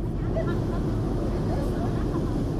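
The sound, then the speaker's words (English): A steady engine drone with low rumbling and churning from a boat cruising along the new Suez Canal in Egypt, past construction sites. It stays continuous and fairly loud throughout with no pauses. “From a boat meandering by construction sites on the new canal Sunday, giant waterspouts are seen slowly raising the level of the waterway.”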